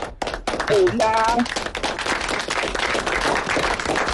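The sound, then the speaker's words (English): A burst of applause fills the room, dense rapid clapping that stays loud and steady throughout, with a brief whooping cheer rising over it near the start. “Wow, that deserves a round of applause.”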